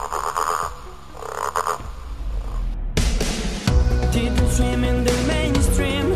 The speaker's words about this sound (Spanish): Soy verde, me gusta saltar, jugar en el charco y también sé croar. ¿Quién soy? La rana.